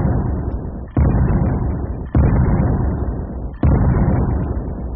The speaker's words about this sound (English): you put a charge in there, and you fire the cannon, and you got puffed oats